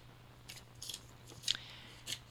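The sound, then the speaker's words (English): Four brief, crisp rustling bursts of paper name slips being shuffled to draw a contest winner, spaced irregularly, fairly quiet, over a low steady hum with no talking. “Let's shuffle these up here.”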